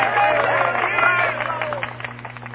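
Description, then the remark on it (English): A theatre audience applauds a stage company's performance, dense clapping mixed with excited voices and cheers at first, then thinning into scattered claps as the noise gradually fades. “And I know that I'm grateful for your applause.”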